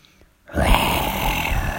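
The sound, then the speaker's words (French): A lion's roar, from an ogre turned into a lion in a castle, bursts in after a brief silence: a loud, rough, low growling rumble that holds steady and full without fading. No one speaks. “Le chat entendit alors un rugissement et fut brusquement en présence d'un lion.”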